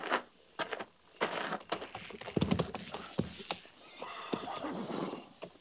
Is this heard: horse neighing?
yes